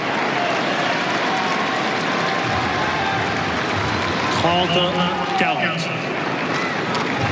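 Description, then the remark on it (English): A large tennis crowd at a Djokovic versus Fonseca match roars and applauds steadily, a dense wash of clapping and cheering, with a burst of louder shouting and whistling rising midway before settling back into sustained noise. “You can hear them for yourselves. Making lots of noise, trying to get behind their man.”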